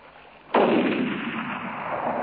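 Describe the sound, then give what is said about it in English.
A single loud rifle gunshot, the third shot, which drops a lechwe, cracks out sharply, then leaves a long, broad rumbling tail that fades only slowly. Nobody speaks. “And the third shot dropped the lechwe.”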